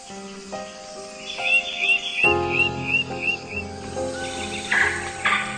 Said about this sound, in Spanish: Con su capacidad de volar, las aves son la encarnación misma de la libertad.